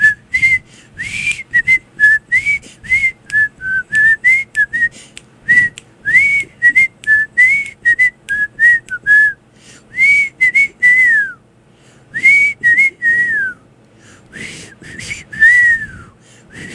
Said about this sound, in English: if you can whistle the Andy Griffith song, I will give you $20